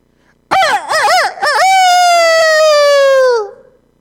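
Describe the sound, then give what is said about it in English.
A person loudly imitates a rooster crowing: a few quick rising-and-falling warbles, then one long drawn-out cock-a-doodle note held for about two seconds before it trails off, alone. “in the very middle of that, the rooster starts crowing.”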